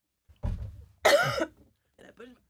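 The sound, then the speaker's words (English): A loud cough: a low rough burst followed by a sharp, harsh hack, then quiet breathy sounds and the start of another cough at the end. “Well, just I was trying to push the cough button.”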